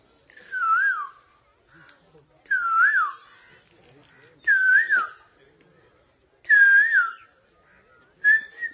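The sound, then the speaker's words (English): An Asian koel (kokila) gives a clear, rising whistled call that repeats five times at steady intervals of about two seconds, loud, with faint background chatter between calls. “This is the Kokila. Actually, he has many tunes. That is his most famous.”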